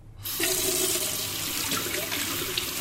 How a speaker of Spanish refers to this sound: ¿Te lavas las manos? Recuerda que debes hacerlo siempre con agua y jabón. ¿Lo hacemos juntos?